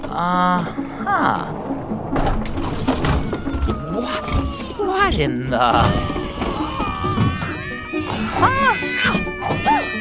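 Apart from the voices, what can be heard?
many cats meowing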